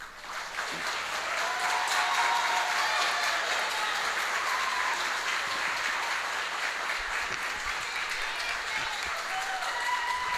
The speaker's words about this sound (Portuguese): Vamos receber também agora, com muito carinho e uma salva de palmas,